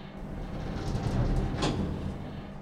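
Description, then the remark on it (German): Elevator doors slide shut at the fifth floor after the door-close button is pressed, with a steady low mechanical rumble, ending in a brief soft thud near the close; no voices, just a continuous hum underneath. “Ich drücke wegen steigender Ungeduld die Taste zum Schließen der Türen.”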